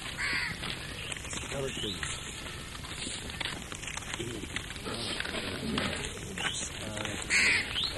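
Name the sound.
large birds calling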